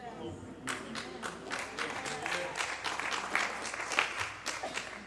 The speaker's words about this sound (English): I mean, that's why every once in a while I'll clap my hands. And sometimes standing on my feet and clapping my hands don't do it.